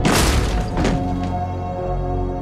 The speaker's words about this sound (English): He kicks down the door of Maggie's room.